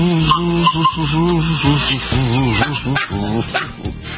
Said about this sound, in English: Yesterday was kazoo day, and I found my kazoo. This is a sort of whistling kazoo. Hey, want to hear the most annoying sound in the world?